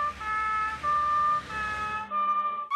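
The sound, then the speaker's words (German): A red fire engine's siren wails in a steady two-tone pattern, alternating high and low pitches several times, loud over a low vehicle rumble as it drives past, then cuts off abruptly. “Es ist bestimmt toll, eine Feuerwehr zu sein. Eine Feuerwehr kann mit Wasser herumspritzen, wie ein Wal.”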